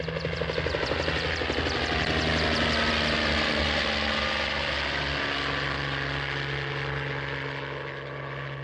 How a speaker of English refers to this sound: Get that copter away from here. Noise enough to wake the dead, let alone that thing down there.